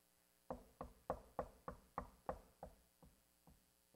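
About a dozen sharp knocks in a quick, steady rhythm, loud at first and then gradually fading and spacing out as they trail off, with no voices.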